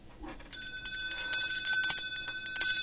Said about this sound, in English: You just rang the bell. Absolutely. You were not supposed to ring the bell.